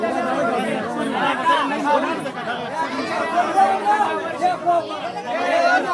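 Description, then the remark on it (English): A dense crowd of many overlapping voices clamors continuously at a flood relief camp, people trying to barge in through a smashed door blocked with a chair, loud and agitated, with shouts rising above a steady wall of chatter and no single speaker standing out. “Camp volunteers had to block it with a chair to stop people from barging in. I recorded some of the sound.”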